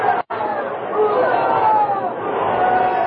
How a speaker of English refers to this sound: He handled his muleta in a way that brought the enthusiastic crowd screaming to its feet.